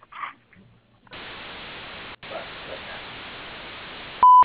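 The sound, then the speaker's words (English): A steady hiss of line static runs for a few seconds, briefly cutting out once, then a single loud, pure, mid-pitched voicemail beep sounds at the very end of a Springmobile business voicemail greeting. “So at the tone, please leave me your name, phone number, and a brief message with your screening needs, and I'll get back with you as soon as possible.”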